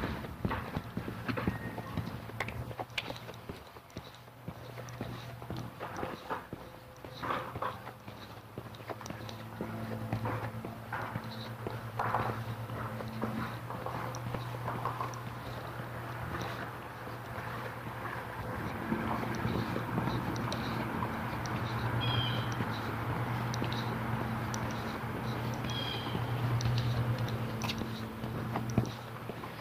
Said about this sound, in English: Walking and not talking